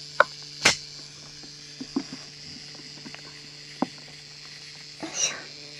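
A handle crackles right by the microphone after being leaned on: a handful of sharp, irregular clicks and pops, one louder burst early and a rustling crackle near the end, over a steady low hum.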